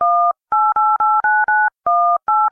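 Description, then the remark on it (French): A telephone number is dialed on a touch-tone keypad to call the fire brigade: a quick series of about nine steady two-tone beeps, some short and some longer, separated by brief gaps, with no voices. “Allô, les pompiers? Il vous faudrait venir.”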